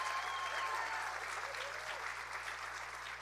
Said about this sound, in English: And you got the greatest pastors in all the land. Come on, give a good clap offering for you. Isn't that true?